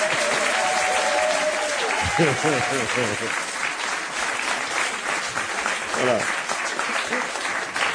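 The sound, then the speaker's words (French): An audience applauds an orchestra before it has played, in magnificent weather: steady clapping for several seconds, a dense, continuous patter with some cheering voices rising above it near the start and again briefly later. “l'orchestre, c'est …, que je vous demande d'applaudir avant même qu'ils aient joué”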